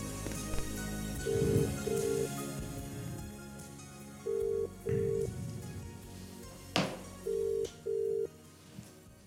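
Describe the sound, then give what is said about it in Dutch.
Three pairs of steady ringback tones of an outgoing phone call made from Amsterdam repeat down the line at even intervals, each double beep clear and moderately loud over a faint background hiss, with a few small clicks and knocks between them. “Hij belt al.”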